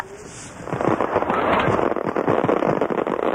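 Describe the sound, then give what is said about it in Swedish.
Fireworks at the Water Festival (Vattenfestivalen) crackle and pop in a dense, continuous barrage, with rapid bursts overlapping into a loud, steady roar that swells after a quieter opening second. No voices. “Frankrikes fyrverkeri får inte vara med på vattenfestivalen, men Kinas får vara med.”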